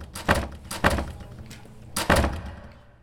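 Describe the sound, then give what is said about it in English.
A classroom door is shut loudly, producing a few heavy, sharp thuds spaced out over a couple of seconds, each with a short rattling decay. Nobody speaks. “It makes me so angry How hard is it to softly close a door?”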